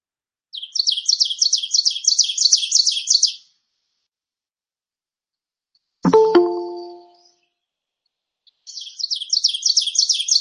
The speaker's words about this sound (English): It's a loud, emphatic song. People use the mnemonic teacher, teacher, teacher, teacher. So here's the oven bird.